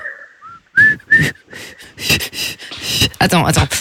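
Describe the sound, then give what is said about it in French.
Someone whistles a brief, wavering song melody, a few pitched notes, before it breaks into loud, breathy bursts and voice-like sounds that cover the rest. “Il sifflait, on l'a dit, pas soufflé.”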